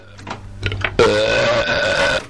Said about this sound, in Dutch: Als ik jou hoor boeren, dan laat ik de knop lossen.